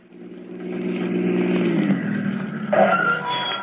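A car engine revs, its low harmonic drone rising and then settling as the vehicle slows and pulls up, with some clatter near the end.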